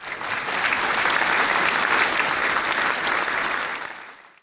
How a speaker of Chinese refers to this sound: 通过这两个活动，上个礼拜学校的用电量少了一半以上，用水量都减少了。大家掌声鼓励。